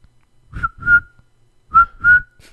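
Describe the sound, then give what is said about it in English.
Someone whistles a bird-call imitation: two repeated two-note phrases, each a pair of short, clear, mid-high tones ending in a sustained note, with breathy puffs beneath and a pause between phrases. “You can't even do the bird noise. It sounds like a cricket.”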